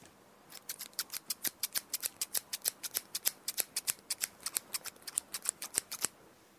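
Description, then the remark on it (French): Rapid, steady snipping of a pair of scissors, about thirty crisp metallic cuts in quick rhythm, clear with no talking. “Il s'agit d'une paire de ciseaux.”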